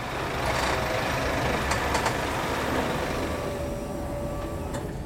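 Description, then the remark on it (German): Heavy trucks arrive at a food distribution centre with large cold rooms and warehouses, in Dormagen, Germany: a steady low engine drone, brief clanks and hisses, and a faint tonal whine near the end, with no talking. “Und in diesen Verteilzentren, also die haben große Kühlräume, die haben große Lager, da kommen ganz viele LKWs an.”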